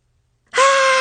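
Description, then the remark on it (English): After a moment of silence, a single loud, high-pitched scream of anger in a principal's office bursts in abruptly and holds steady at one shrill pitch until the end, with no talking. “That was me screaming.”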